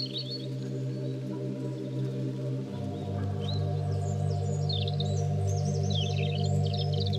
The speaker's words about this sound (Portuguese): No percurso do Salreu, onde nos encontramos, este pisco está a cantar e é frequente na espécie cantar bem aprumado, na vertical. Machos e fêmeas cantam durante todo o ano, melodias que conhecemos bem.